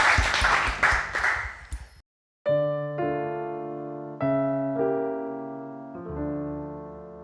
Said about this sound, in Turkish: Bir alkışlayalım basın için.